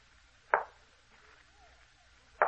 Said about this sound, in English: Someone knocked at the door. I think we must have been mistaken. Listen. There is someone outside.